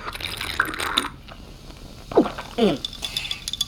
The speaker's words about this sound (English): It's still bubbling. Like I said, completely natural. Take a sip. Oh god, this is risky. Just drink it. Okay.